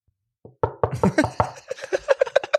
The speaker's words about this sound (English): Knock, knock.